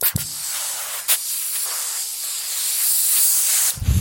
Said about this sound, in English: I'd like the sound of an ironing a shirt. That's it's ridiculous. It's one of my favourite sounds.